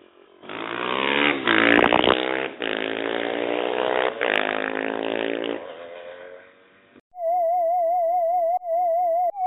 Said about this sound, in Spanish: desde el cerro del Ajusco, nubes y montañas, y ahora hasta se escuchan los motores.